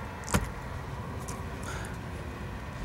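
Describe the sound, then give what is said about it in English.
A car engine rumbles low and steady as the vehicle rolls slowly in, pulling into a driveway at a house, with a single sharp knock or click just after it begins. “I give her a little bit of head start to get to the door. I start pulling in.”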